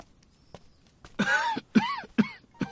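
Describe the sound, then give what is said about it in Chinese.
An elderly master of a household coughs in a rough, throaty fit after catching a chill: one long hacking cough followed by three shorter, quicker ones, with nobody speaking. “老爷怎么咳嗽上了？”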